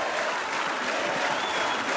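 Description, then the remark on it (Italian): A crowd of about 12,000 people in a town square applauds and cheers a musician's performance in a steady, dense wash of clapping that fills the space, sustained and loud throughout with no pauses. “Hai fatto benissimo, ti sei conquistato un grande applauso, ora ricomincia.”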